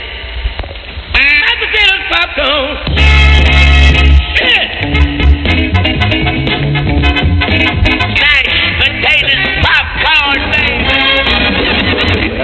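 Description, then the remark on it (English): A loud, steady radio time-signal tone marking exactly 2:30 in Melbourne, Australia, holds for about a second, with a low hum and even overtones, set between stretches of busy radio talk and music. “Here's the tone. There's the tone.”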